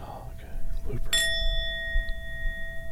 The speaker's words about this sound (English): I do three, right? Three, yeah. Oh, you can do a 10-bell salute. No, that's too much.